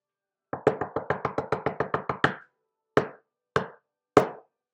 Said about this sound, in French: Peu de temps après, voilà que quelqu'un frappe à la porte.